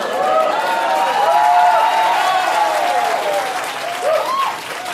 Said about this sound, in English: They like that. You got a lot of applause. You know, you get your applause, I get exactly my applause.